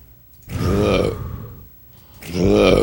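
Two loud, close burps, a long rumbling one lasting about a second followed by a brief pause and a second deep, guttural belch.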